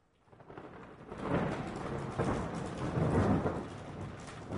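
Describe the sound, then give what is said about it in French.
A thunderstorm at night over a village in California, with deep, rolling rumbles of thunder over a steady wash of heavy rain, building in loudness after a quiet start and swelling in waves. “Cette nuit, il y a un terrible orage.”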